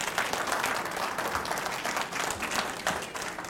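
A crowd applauds steadily, many hands clapping in a dense, continuous patter that holds an even level throughout, with no voices standing out.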